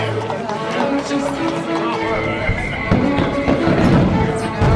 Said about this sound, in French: Quelle foule ! Surtout, ne vous éloignez pas trop, vous pourriez vous perdre. Suivons le flot des invités de ce grand divertissement du 18 juillet 1668 dans une déambulation pleine de surprises à travers les jardins.